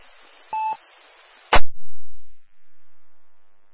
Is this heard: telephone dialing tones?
yes